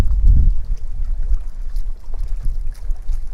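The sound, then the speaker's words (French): Gentle waves lapping at night, with a steady low rumble of wind blowing underneath, continuous and fairly soft, no voices. “Comme une caisse de résonance d'une guitare, laissez-vous remplir par le bruit de la nuit, par le clapotis des vagues, par le souffle du vent.”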